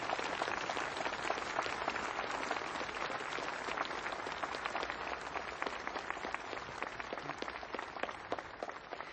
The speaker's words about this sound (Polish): Dodał następnie, mówiąc do wiernych, aplauz dla Królowej Polski. I zaczął bić brawo z obecnymi.